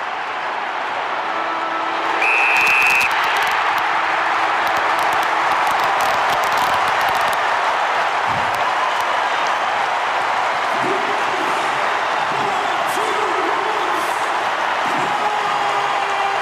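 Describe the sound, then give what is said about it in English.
A packed stadium crowd erupts into a huge, sustained roar of cheering and clapping as the final siren sounds briefly near the start, as Port Adelaide beat the reigning premier 79-77; the dense, loud noise holds steady throughout. “This crowd's going to go crazy.”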